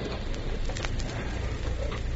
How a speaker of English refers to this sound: the President has arrived, and you hear the applause for the chief executive as he strides down the aisle.